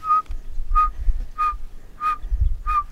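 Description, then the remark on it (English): A person whistles a steady series of five clear, evenly spaced single notes, imitating a pygmy owl's call to draw in a mixed flock of birds, with low outdoor rumble in the background. “They hear that whistle and they think it's a pygmy owl.”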